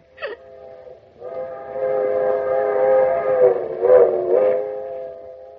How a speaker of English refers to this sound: We can even hear the train from here.